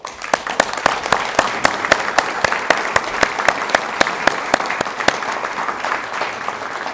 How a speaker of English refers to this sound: If not, please join me in applause for his tremendous work.